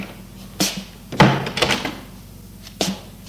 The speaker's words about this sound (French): Il la fait rentrer et ferme la porte.